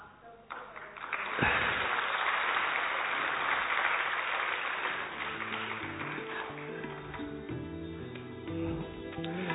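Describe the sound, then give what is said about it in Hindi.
An audience bursts into loud, steady applause after a short pause, welcoming the chairperson at a park event. The dense clapping holds for several seconds, then gradually thins as melodic tones rise beneath it. “आप सब एक बार जोरदार ताली बजाकर दीदी का स्वागत करें।”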